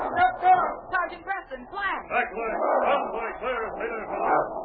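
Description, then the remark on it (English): A dog barks and snarls in rapid, loud bursts, tangled with frantic shouting voices throughout the few seconds. “You're lucky I held that other dog back.”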